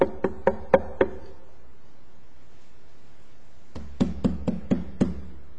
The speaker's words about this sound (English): So when you hear Jesus knock,